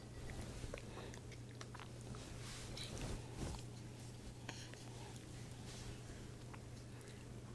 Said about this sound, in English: So what do you think about the orange juice? Oh, slurping. I guess you like.